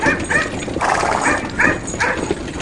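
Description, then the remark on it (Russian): A dog barks repeatedly in quick, uneven bursts, about six sharp barks over a couple of seconds, fairly loud against a faint background rumble. “Это была ученая собака. Она умела править вожжами и лаяла на лошадей, когда те начинали дремать или сбивались с дороги.”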